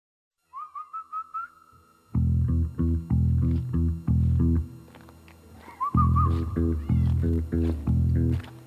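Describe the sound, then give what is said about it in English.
A cat meows in a quick run of short, bright calls, then a loud, rhythmic series of lower, throaty meows repeats steadily, with no one talking. “It's a cat.”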